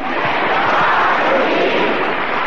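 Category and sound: crowd, audience clapping hands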